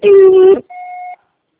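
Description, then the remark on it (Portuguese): An answering machine beep before a voicemail message: a buzzy, harmonic-rich tone for about half a second, then a short pause and a cleaner, steady electronic beep. Both are moderately loud, with no voices. “Se for muito importante, deixe seu recado após o bip.”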